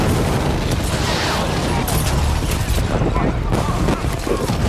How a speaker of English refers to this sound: Unfortunately, after the explosion, it didn't really do it for me.